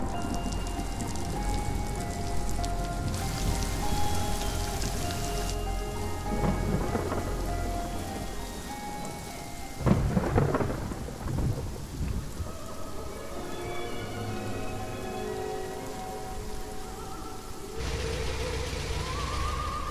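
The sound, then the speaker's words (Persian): Heavy rain pours steadily throughout a thunderstorm, with a loud thunder crack and rumble breaking through midway before the downpour carries on. No voices are heard. “امشب جز طوفان یه مشکل دیگه هم هست.”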